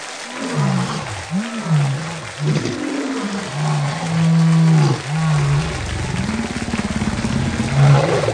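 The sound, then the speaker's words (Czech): Lions belonging to circus director Orlando roar inside a protective cage set up around the circus ring, a string of deep, rumbling roars that rise and fall and overlap one another, loud and continuous with no voices. “Rozléhá se manéží řevšelem.”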